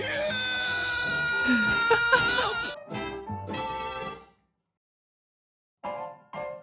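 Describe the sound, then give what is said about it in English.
A person on the bank of a flooded gorge screams for help, loudly in long, strained, wavering cries, then a few shorter shouts, a silent pause, and two brief final yells, with no other background sound. “And her first instinct was to scream for help.”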